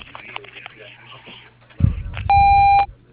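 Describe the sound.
A restaurant's answering machine tone: a single loud, steady electronic beep lasting about half a second, preceded by faint muffled voices and a low thump.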